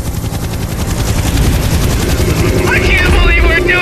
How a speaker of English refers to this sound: Zahe, do you hear some helicopters?